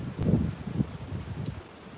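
Wind gusts buffet the microphone outdoors during a live stream, with a little rain falling, producing low, rumbling bursts that swell and fade irregularly, with faint rustling in the background and no one speaking.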